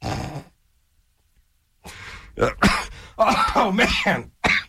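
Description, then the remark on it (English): A harsh, sputtering coughing fit: a short burst, a pause of silence, then several rough, choking coughs and hacking throat-clearing sounds in quick succession, loud and raspy. “Got all choked up on that.”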